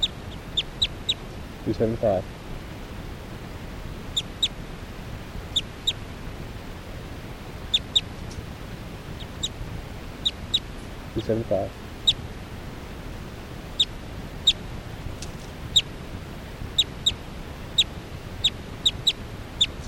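Faint calls of bird 376 being recorded: short, sharp, high-pitched chirps repeating at irregular intervals over low background hiss, interrupted twice by brief low rumbling bursts.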